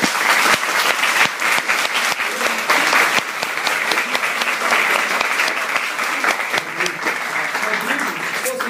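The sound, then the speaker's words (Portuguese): An audience applauds steadily and fairly loudly, a dense patter of many hands clapping that holds at an even level for several seconds without fading. “Eu aplaudo a fala dele.”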